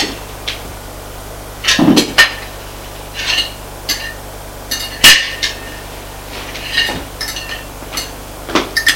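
Sharp clinks and scrapes of cutlery against dishes as a man begins to eat, coming at irregular intervals, with a few brighter knocks and softer rattles between them, over a faint steady hum. No one speaks.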